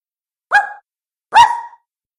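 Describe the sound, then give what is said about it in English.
A puppy barks twice, two short high yips about a second apart, fairly loud with silence around them. “A pup?”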